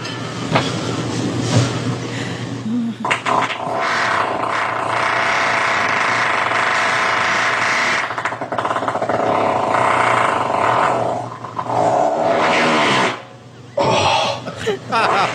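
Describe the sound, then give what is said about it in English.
A long, loud fart rumbles and rasps steadily for about ten seconds after a few sputtering bursts, then cuts off abruptly, followed by a couple of short rough noises. “Fucking king ass ripper right here. Hairy and gross.”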